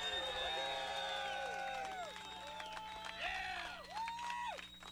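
A crowd cheers and whoops loudly, overlapping voices rising and falling with some clapping underneath, sustained throughout without a break.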